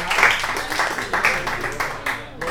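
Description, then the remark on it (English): An audience at a show applauding: dense, continuous clapping with a bright, crackling texture that holds at a fairly steady, moderately loud level for a couple of seconds. “Let's give Grody Hunt a round of applause.”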